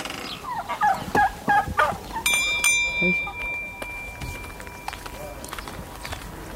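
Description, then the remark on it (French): Chickens call in a quick, gobbling burst of several rising notes as they are being tended, followed by a clear ringing tone that fades away while scattered softer noises continue in the background. “Je l'avais habité sous mes lapins et puis maintenant je vais soigner mes poulets, ils en ont de l'eau.”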